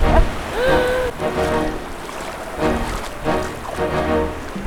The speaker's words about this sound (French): Bon, alors, mes copines, là, elles ont pris des petits body surf et puis voilà, elles jouent comme des fofolles dans les vagues. Petite vague, hein, c'est aujourd'hui, mais enfin, ça fait quand même plaisir.